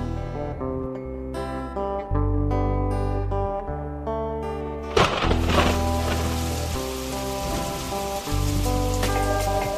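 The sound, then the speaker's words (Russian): Heavy rain sets in partway through, a dense steady hiss that continues to the end beneath a prominent melodic music track with sustained tones. “Пришел весь мокрый, дождь сильный.”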